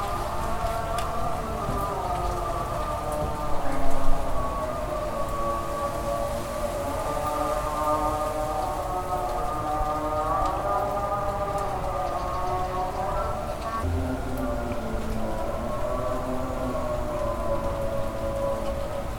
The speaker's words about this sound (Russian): Это у арабов началась молитва.